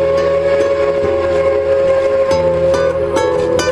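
A loud steam whistle blares continuously as a train rumbles close by, its wheels clacking in a steady rhythm beneath the sustained wail. No voices are heard.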